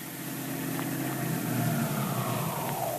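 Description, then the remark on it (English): A car engine hums steadily, then its pitch sinks as the car slows, pulling up and coming to a stop outside an apartment house. No voices are heard. “The great detective is just stopping outside the apartment house where Tess Trueheart lives.”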